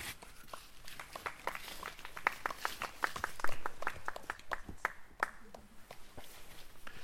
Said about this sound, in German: So, vielen Dank, Kinder, das habt ihr super gemacht. Applaus.